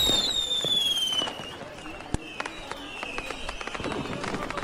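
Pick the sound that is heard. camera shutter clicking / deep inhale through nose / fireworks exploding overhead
fireworks exploding overhead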